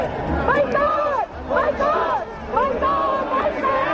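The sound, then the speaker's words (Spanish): A crowd of about 200 to 300 protesters outside the Movistar Arena on Avenida Felipe II, Madrid, chants boycott slogans against Israel and Maccabi Tel Aviv ('out of Madrid') in unison, the rhythmic phrases repeating about every second and a half over a steady roar of many voices. “Gritos de boicot Israel, de Maccabi Tel Aviv, fuera de Madrid, así sonaba hace unos minutos.”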